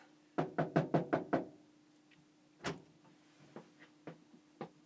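A quick series of six knocks raps on a hotel room door on the third floor, followed after a pause by one louder knock and a few softer, scattered taps, with a faint steady hum beneath and no voices.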